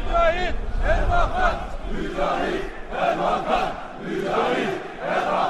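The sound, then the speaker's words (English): A large crowd chants loudly in unison at the funeral of Necmettin Erbakan in Istanbul, Turkey, many voices blending into a dense roar that swells and dips in rhythmic waves throughout. “Judging by the size of the crowds at his funeral in Istanbul today, he made an impression.”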